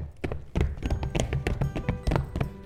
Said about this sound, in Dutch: Hop, hop, hop. Paardje in galop.